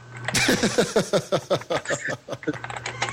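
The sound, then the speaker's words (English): Rapid, rhythmic clacking of keys on a computer keyboard, steady, with a faint low hum underneath and no one talking. “Who's typing and clacking?”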